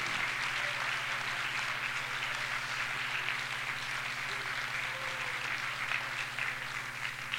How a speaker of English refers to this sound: God wants to see your hands. God wants to hear you give him a hand of praise. Why don't you clap your hands for the glory of God? Go ahead. As you clap your hands, why don't you say, I love you, Jesus.